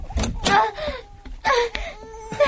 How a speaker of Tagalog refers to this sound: nakarinig na ako ng iyak ng sanggol sa labas ng pinto nitong kwarto namin.